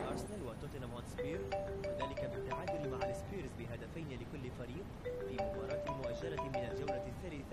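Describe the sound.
A mobile phone ringtone plays a short electronic melody twice with a pause between, over background noise and murmuring voices; the phone belongs to a man who is sleeping.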